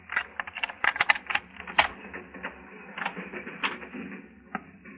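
A skeleton key rattles and works in a door lock, giving a run of irregular sharp metallic clicks and scraping jiggles, moderately loud, with no voices.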